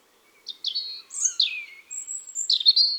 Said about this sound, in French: Le rouge-gorge.